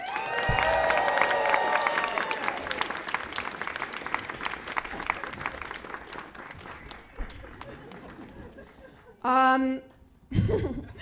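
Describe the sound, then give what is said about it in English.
A crowd breaks into loud applause mixed with cheers and whoops as actors are introduced by name for a live script read, the clapping dense at first and gradually thinning out, followed by a couple of brief voice bursts at the end. “Please applaud after each name equally.”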